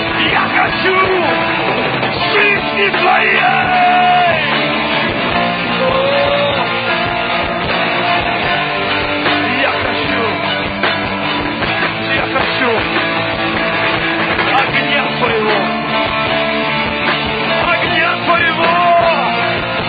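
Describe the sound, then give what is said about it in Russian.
A loud, dense wall of many voices shouting and yelling together, sustained without pause for the whole stretch, overwhelming like a roaring crowd. “кричит!”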